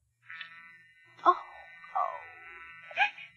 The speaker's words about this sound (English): Oh, that sounds like a phone's off the hook. Isn't this? There's a phone up in that part of the store, isn't it?